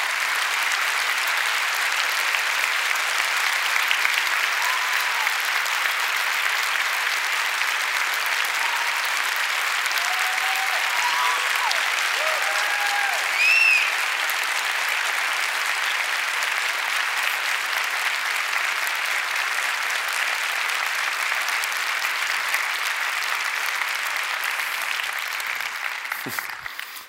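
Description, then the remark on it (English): An audience at the Tyson's campus applauds those standing who have served in the armed forces, a dense, even wash of clapping that holds at the same loudness for nearly half a minute, with a few faint whistles or cheers rising above it before fading out at the end. “Only thing bad about asking you to stand is we all want to stand in applauding for you, just especially in light of a week like last week when we thought about our persecuted brothers and sisters around the world.”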